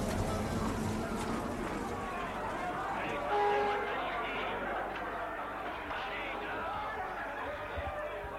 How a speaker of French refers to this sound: Il sort du métro à Montparnasse. Là aussi, café plein de monde, gens dans les rues.